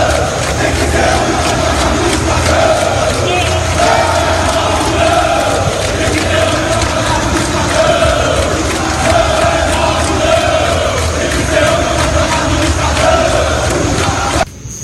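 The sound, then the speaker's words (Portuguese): A large crowd of Bahia supporters, members of the organized fan group Bamor, chants loudly and continuously in protest at Arena Fonte Nova, waiting for the Bahia team bus after a poor result against Remo. The steady rhythmic chanting merges into a dense roar that holds for the whole stretch before cutting off abruptly. “Pode colocar aí, Vitão, as imagens dessa manifestação da torcida do Bahia.”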